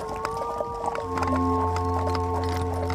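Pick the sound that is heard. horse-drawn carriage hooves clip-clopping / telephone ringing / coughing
horse-drawn carriage hooves clip-clopping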